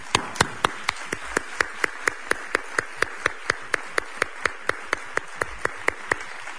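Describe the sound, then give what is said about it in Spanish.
Steady, rhythmic clapping in unison in honour of the 133rd anniversary of the Recreativo de Huelva club: about twenty sharp claps at an even pace over a soft background hum, with no one talking. “Yo creo que se merece un aplauso por parte de todos, ¿no?”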